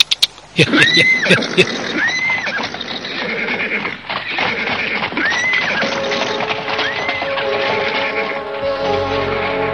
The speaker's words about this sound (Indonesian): Gede Anuroko menghelat tali kuda, lalu kuda pun meringkik dan menarik kereta yang mereka tumpangi hanya berdua.